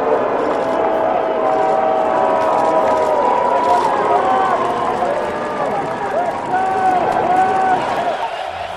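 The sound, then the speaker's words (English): A large stadium crowd at the NFL season opener boos loudly and steadily as both teams lock arms in the middle of the field in a show of unity, many voices blending into a sustained, wavering roar that fills the whole stretch without letting up. “And as you will hear, there were some in the crowd who clearly did not like it.”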